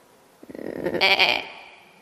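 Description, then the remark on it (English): A single lost sheep bleats once from a distant hill, a quavering, wavering call lasting about a second, with no other sounds or voices around it. “And after we had listened a while, the faint voices of our sheep were heard on the distant hill.”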